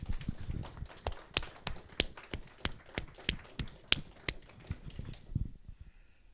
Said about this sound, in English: But would you give a round of applause for appreciation for our music and technical people, please?